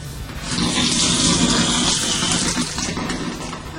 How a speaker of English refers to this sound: That is, it was almost as if there was a big log kind of roadblocking her ass. And it just popped out. And all of the enema juice comes pouring out.